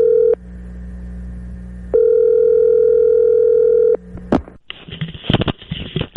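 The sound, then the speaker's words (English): A telephone ringback tone sounds in steady long pulses, loud, as a radio show places a call to a golfer, before a click and a burst of noisy line crackle as the call connects; no one speaks. “We have a phone number for Tiger Woods.”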